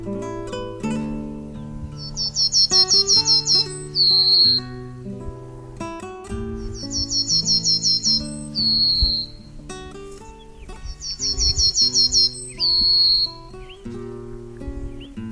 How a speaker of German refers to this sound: Das war die Fichtenammer.